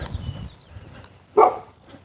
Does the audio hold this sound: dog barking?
yes